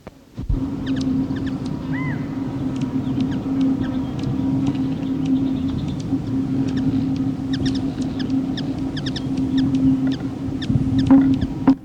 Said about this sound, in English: Comparison of chips of Calypti anna and Archilochus alexandri and wing whistle of the latter, recorded at Encinal Canyon, Malibu, Los Angeles County, California, 22 April